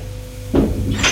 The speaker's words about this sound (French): Elle entre. Ferme la porte.